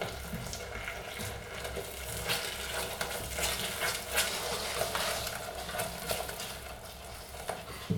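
Steady scraping and swishing of a spoon stirring a sauce with salt and a teaspoon of mustard in a pot on a hot stove plate, continuous, with small clinks against the metal and no talking.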